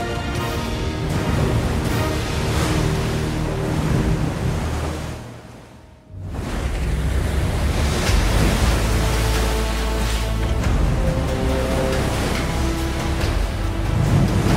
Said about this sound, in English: The Atlantic Ocean. One of the most dangerous bodies of water in the world.